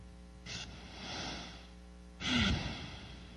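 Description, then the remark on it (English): A slow, deep diaphragmatic inhale followed by a louder, fuller exhale, airy, with no talking. “As I said, diaphragmatic breathing, I took a breath.”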